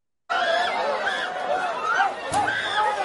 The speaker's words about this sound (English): It sounds like a bunch of screaming, so I'll read.